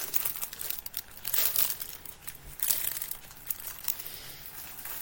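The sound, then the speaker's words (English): The plastic packaging of a big pack of tissues crinkles continuously for about five seconds, a bright, crackly rustle with bursts of sharper crunching, fairly quiet overall and with no voices. “Yes, I use it to wipe things clean. Because I bought a big pack of them.”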